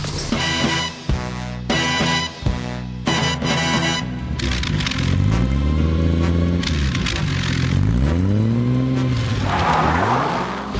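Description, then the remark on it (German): A Jaguar E-Type sports car engine revs hard several times, pitch climbing and falling in sweeping arcs, loud, after a short burst of choppy music at the start. “Genau, der klassische Sportwagenmotor mit Notsitz. Jaguar E-Type.”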